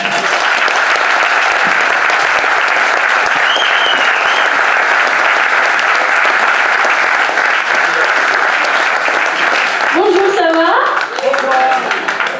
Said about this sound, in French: J'espère que vous serez réservé un tonnerre d'applaudissements, s'il vous plaît, pour Carla Lazari.